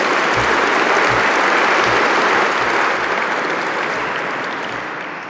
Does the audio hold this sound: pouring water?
no